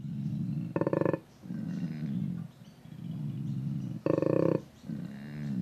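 koala bellowing

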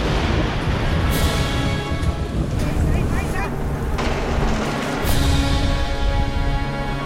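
thunder

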